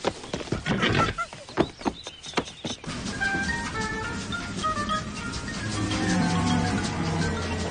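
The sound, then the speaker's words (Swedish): A horse's hooves clip-clop in a quick burst of sharp knocks, followed by neighing and whinnying over a steady, busy background, moderately loud, with no talking. “Vilket inkluderar apan och hästen.”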